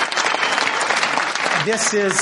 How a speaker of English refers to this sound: And you should applaud.